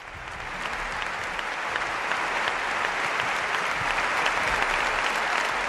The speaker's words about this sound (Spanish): Por tercera oportunidad consecutiva, antes del partido, esta gran ovación allí en el Buesa Arena para Pablo Laso.